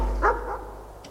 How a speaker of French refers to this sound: Elle va vers eux et fait taire les chiens. Silence ! Ça suffit ! Couché.